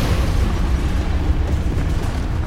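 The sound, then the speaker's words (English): A building collapses with a sustained, heavy rumble, dense crashing debris and deep low-end roar that stays loud and steady throughout, with no voices over it. “And it shatters, collapses.”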